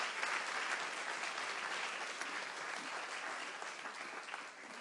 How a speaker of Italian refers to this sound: Facciamo un applauso al Signore, diamogli gloria, diamogli gloria.